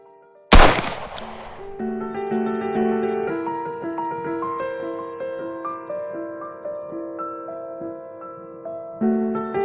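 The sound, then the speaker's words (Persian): A single loud gunshot cracks out near the start and echoes briefly, fired at a maid from close range by a man who drew a shiny gun from his jacket pocket. It is followed by a sustained, swelling musical score that carries on to the end. “دختر همزمان با شلیک تیر نعره‌ای کشید.”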